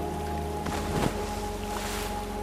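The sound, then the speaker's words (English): A short splash of something falling overboard from a fishing boat into the water, over the steady drone of the boat engine and outdoor wind noise, with no one talking. “Just as he reached his hand for the night crawlers, that's when we heard the splash.”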